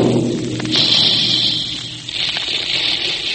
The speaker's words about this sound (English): That's the sound you hear when the big Quaker guns are making puffed wheat and puffed rice.